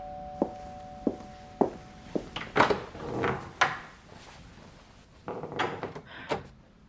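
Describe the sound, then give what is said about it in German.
Several footsteps approach, followed by a cluster of wooden knocks and thunks as a door is handled and opened, then more shuffling and a final clack; no one speaks. “Soll ich öffnen?”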